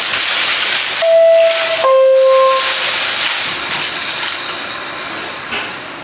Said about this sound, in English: This is 7th Avenue. This is the Queensbound G train. The next stop is 4th Avenue, 9th Street. Stand clear to close the door.